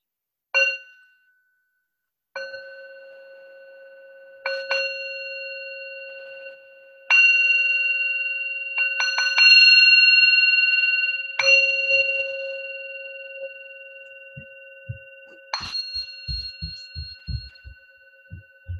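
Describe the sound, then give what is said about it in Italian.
A meditation bell rings out repeatedly to introduce a meditation, each clear strike leaving a long, shimmering hum that overlaps the next; toward the end, soft low rhythmic thumps pulse beneath the fading tone. “Rimaniamo qualche istante in ascolto e ascoltiamo qualche suono di campana che ci introdurrà alla meditazione.”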